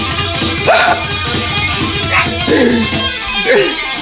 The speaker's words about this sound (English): All I can hear is Big Rig moving and Henry barking.